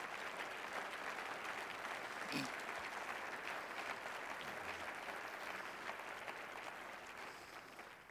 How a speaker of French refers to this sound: Alors qu'on arrive à la fin du message, pouvez-vous lui donner une dernière main d'acclamation?